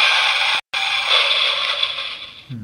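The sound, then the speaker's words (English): A car crash sound effect: a loud, harsh burst of crunching, grinding noise that runs for a couple of seconds, with a brief gap just after it starts. No voices. “This one is Car Crash.”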